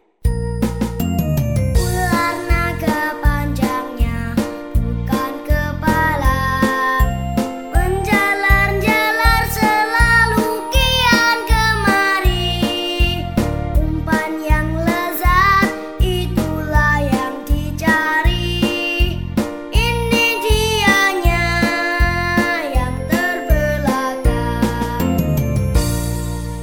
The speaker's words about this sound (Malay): Nah, anak-anakku yang manis, sekarang ibu akan mengajak kalian untuk bermain ular naga. Sebelum bermain, kita dengarkan lagu ular naga ya.